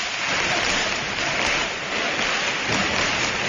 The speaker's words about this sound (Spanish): Por palmas. Tan características de este estadio del nuevo Colombino.